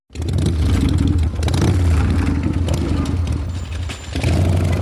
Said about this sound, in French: Et vous l'entendez la moto? Et ça fait 5000 fois. 5000 fois que vous entendez cette moto, et oui, depuis 25 ans, à peu près 5000 fois. Et pourquoi on commence aujourd'hui avec cette moto?